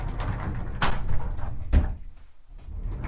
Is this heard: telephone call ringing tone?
no